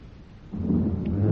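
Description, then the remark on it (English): A deep, rolling rumble of thunder in a storm at night swells up after a quieter start and keeps growing louder, with a stormy hiss of wind or rain beneath it and no voices. “Oh, I hate the sound of trees in a storm at night.”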